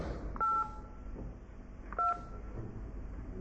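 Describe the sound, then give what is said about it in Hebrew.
Two short telephone keypad tones entering a password, each a clean dual-pitched beep about a fifth of a second long, pressed roughly a second and a half apart over a low background hum. “נא קישו את הסיסמה שלכם, ואחר כך תולמי.”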